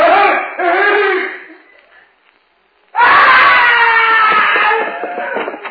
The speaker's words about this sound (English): I heard a scream. What happened? I don't know.